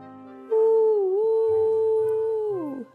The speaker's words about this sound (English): A farm dog answered the train. Woof! And then a second dog joined in. Woof, woof, woof.